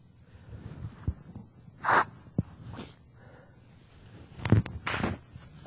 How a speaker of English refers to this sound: You never had to blow your nose with a microphone on. It's an exciting thing.